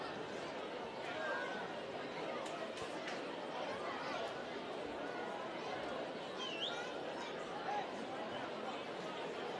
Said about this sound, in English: Nice crowd has filed in here. It was a late arriving crowd tonight. I think everyone was kind of waiting to see if the rain would stop or not.